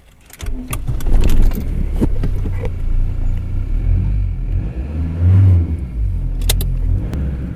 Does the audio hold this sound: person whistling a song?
no